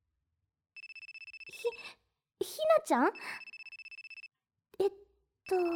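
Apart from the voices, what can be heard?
mobile phone ringtone ringing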